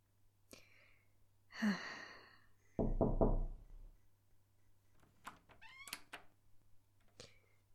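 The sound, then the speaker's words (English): A quick series of about four firm knocks on a neighbor's door, loud and hollow, preceded by a brief sighing vocal sound, then a few faint scattered noises. “Just knock on the damn door.”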